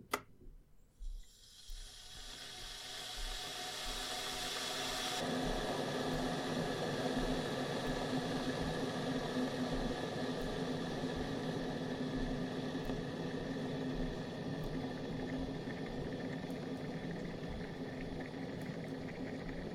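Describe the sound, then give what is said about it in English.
An electric kettle heating water for tea: a brief click, then a steady rumbling hiss that swells within a few seconds and holds evenly to the end, with no talking. “Let me just put on the kettle.”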